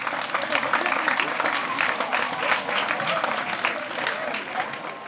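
Sustained audience applause, a dense, steady wash of many hands clapping at an even loudness for several seconds, tapering slightly at the end, with no clear voices above it.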